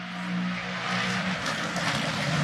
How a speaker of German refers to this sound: Ja, das ist doch auch mal schön. Podcast garniert mit rennenfahrenden GT3-Autos.